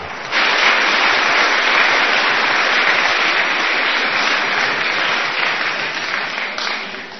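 Sustained audience applause, a dense, steady wash of clapping that starts abruptly, holds at full strength for several seconds, then gradually tapers off toward the end.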